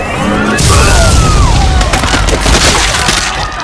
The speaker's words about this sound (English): The energy blast blew Dirac apart like a rotten apple.